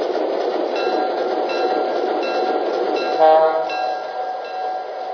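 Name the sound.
train running on rails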